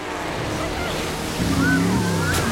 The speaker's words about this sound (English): On jet skis, Johann's men crisscross in front of the boat, making a big wave.